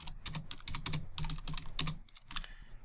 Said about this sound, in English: Sorry about all that typing. I just sent him a message.